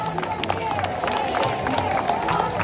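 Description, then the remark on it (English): A dense protest crowd at a federal courthouse roars and claps continuously as a marching group of moms arrives, with cheering voices and scattered whoops blending into a steady, loud, sustained wash of noise. “And when they get to the federal courthouse, I mean, the crowd loves them. They start cheering.”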